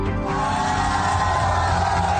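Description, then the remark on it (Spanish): A large crowd in central Madrid, Spain, cheers and shouts as electricity returns after a blackout on the Iberian Peninsula, a dense, steady roar of many voices with scattered whoops and yells rising above it for the whole stretch. “La electricidad volvió a la península ibérica provocando gritos de euforia como en el centro de Madrid.”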